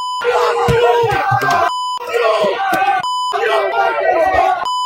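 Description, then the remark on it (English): A dense crowd of fans yells and shouts loudly and continuously at the Spurs team bus as Wembanyama gets off, some picking up trash cans and throwing them, the roar cut twice by brief steady electronic beeps before the shouting surges back. “This is when they first notice the bus, and they're picking up trash cans and throwing it at him.”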